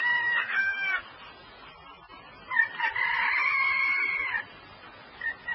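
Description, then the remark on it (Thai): A rooster crows loudly at dawn as the sky begins to lighten, one drawn-out crow followed by a second longer one, with a short start of another at the end; no one speaks. “เสียงไก่โฮอยู่ไม่นาน”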